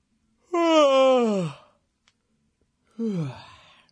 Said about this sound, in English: Yeah, sorry, I guess I shouldn't be yawning and stretching on the radio, but, yeah.